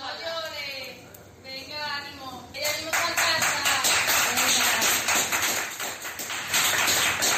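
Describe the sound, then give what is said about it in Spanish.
Excited voices call out and cheer, then a crowd of hospital staff at the hospital in Osuna breaks into loud, steady applause that continues to the end with shouts of encouragement mixed in, as a 79-year-old man from Pedrera leaves the ICU after 11 days. “Y en el hospital de Osuna, justo en el momento que escuchamos ahora, entre los ánimos y aplausos del personal sanitario, un vecino de Pedrera de 79 años ha abandonado la UCI área donde ha permanecido 11 días por su evolución favorable”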